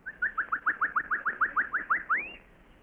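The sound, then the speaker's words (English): A person in a jungle imitates a bird call as a signal: about a dozen quick, rising chirps in a steady rhythm, then one longer note sweeping upward. It is clear and fairly loud, with no talking. “The bird call? Yes.”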